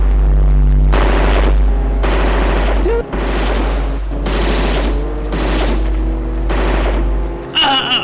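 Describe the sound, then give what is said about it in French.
Several loud bursts of gunfire crackle in rapid volleys, separated by short pauses, over a constant deep rumble like an idling engine, as shots are fired at a woman running from an approaching car; she is hit in the back. “Elle a reçu une balle en plein dos, tombe à terre.”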